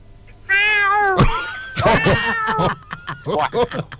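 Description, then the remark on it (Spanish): A person imitates a cat, letting out a long, wavering meow followed by a few shorter mewing cries, fairly loud with no other talk. “A ver, haceme el gato”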